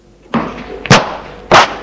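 door being closed

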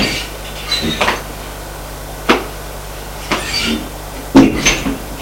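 door being opened

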